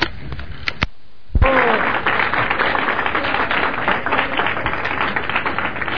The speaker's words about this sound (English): Now they're clapping for my speeches.